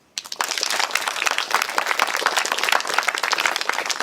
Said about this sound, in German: Freundlicher Applaus für den Fusionsreaktor.